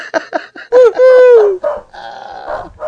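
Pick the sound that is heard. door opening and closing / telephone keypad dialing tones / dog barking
dog barking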